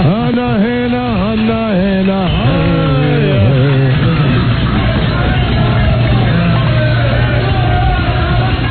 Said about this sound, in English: This is the cheesiest. Sounds like sales staff meetings. Medieval battle. Doing the Atlanta Braves thing.